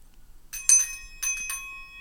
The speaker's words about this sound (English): I think that would have been a good time to use the bell.